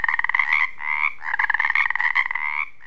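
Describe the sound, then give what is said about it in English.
Male tree frogs, each no more than 2 inches long, calling from near rocks or logs in rapid, pulsing trills that overlap and run almost continuously. The calls are loud, with a bright buzzy tone and brief gaps between bursts. “These calls might sound the same, but to the female tree frog, she can sort through as many as 8 different calls at once as she zeroes in on a partner.”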